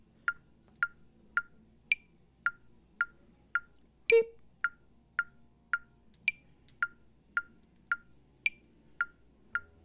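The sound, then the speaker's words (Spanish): A metronome set to four-four time in quarter notes gives a steady train of short electronic beeps at an even pace, with a higher-pitched accent beep every four beats to mark each measure; one brief louder click interrupts midway. “Ahora, ese sonido diferente que hace más agudo de pip, ese me está indicando que ya terminé, por así decirlo, ya pasaron cuatro beeps.”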